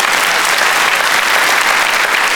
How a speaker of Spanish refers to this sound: De un aplauso a Dios y se lo va a dar.